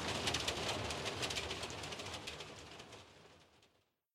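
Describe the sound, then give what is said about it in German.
Hail falling: a dense, steady patter of sharp little impacts forming a loud, hissing clatter that keeps up for several seconds, then fades out. No voices. “Hörst du das? Es hagelt.”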